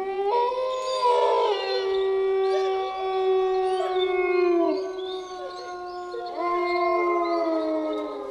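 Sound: wolf howling loudly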